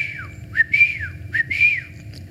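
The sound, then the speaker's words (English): A person whistles a father's special signal call for children to come running home for dinner: a falling note, then a sliding rise into a held high tone, repeated twice in quick succession, with no talking. “Wherever we were, my dad had this special whistle, which meant, and we could hear it no matter where we were, meant come running home for dinner.”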